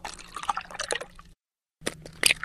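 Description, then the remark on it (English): Milk glugs and splashes as it is poured, then after a short pause an egg cracks with a few sharp taps and a crunchy break. No one speaks. “They're the sounds of pouring milk and cracking eggs.”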